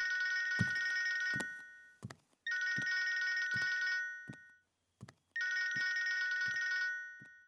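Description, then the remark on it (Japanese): A telephone rings in three long electronic bursts, each a bright, steady multi-tone trill lasting about a second and a half, separated by short pauses with soft thuds in between. No one speaks. “あなた、電話出てくださらない？”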